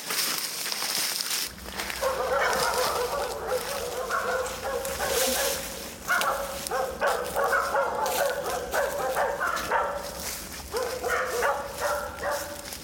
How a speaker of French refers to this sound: Et si on est attaqué par la meute de chiens, l'université n'est pas responsable. C'est la première fois que je les entends, en fait.